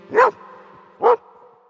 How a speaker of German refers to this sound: Namentlich geben dies die Hunde durch das Bellen zu erkennen.